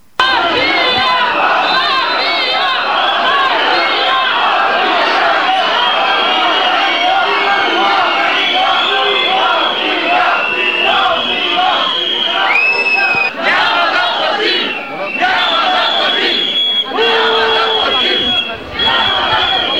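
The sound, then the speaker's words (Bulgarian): A large protest crowd in the centre of Plovdiv, Bulgaria, at midday shouts and chants continuously, a dense wall of many raised voices with occasional whistles and piercing cries rising above the steady, loud roar. “където по обяд се събраха и протестиращите.”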